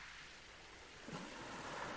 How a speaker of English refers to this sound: The waves you can hear were washing ashore at Deal on the grey morning of the 27th of August, 2021.